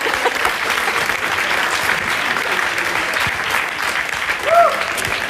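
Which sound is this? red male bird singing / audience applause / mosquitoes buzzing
audience applause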